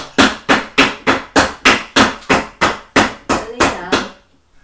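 Steady hammering on a chair with a hammer to fix it, about a dozen sharp, loud strikes in quick regular rhythm, each with a brief woody ring, with no talking.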